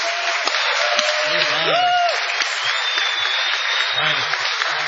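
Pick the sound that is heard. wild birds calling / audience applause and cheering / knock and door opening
audience applause and cheering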